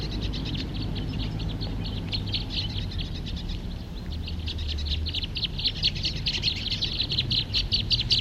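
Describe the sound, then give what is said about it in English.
A flock of birds chatters and fights in a tree, a dense stream of rapid high-pitched chirps and squeaks overlapping without pause above a steady low rumble. “So recording the same birds.”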